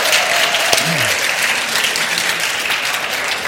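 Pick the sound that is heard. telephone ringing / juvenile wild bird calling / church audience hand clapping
church audience hand clapping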